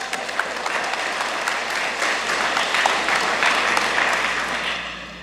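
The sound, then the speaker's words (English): A church audience applauds steadily for about five seconds, a dense, even wash of many hands clapping at a fairly loud level with no speech over it. “Give yourself an applause for that.”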